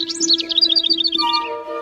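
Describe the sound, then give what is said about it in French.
A tiny wren chirps in a quick, high, twittering trill of many short notes, clear, over a steady low humming tone. “Heureusement pour eux, ils ont entendu une toute petite voix au-dessus de l'aigle.”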